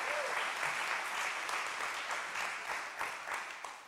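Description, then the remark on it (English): Sustained applause from a crowd during a pastor's sermon, a dense, steady wash of many hands clapping with no gaps, holding at an even loudness for the whole stretch with no voices standing out. “Yeah, I'll clap.”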